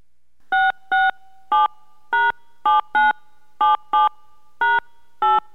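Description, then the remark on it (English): Ten crisp touch-tone beeps as a 10-digit home phone number, starting with the area code, is keyed in on a call to a Coors sweepstakes line, each a short dual-pitched bleep, spaced unevenly with small gaps, clear with no voices. “Please touch tone in your 10-digit home phone number, starting with the area code.”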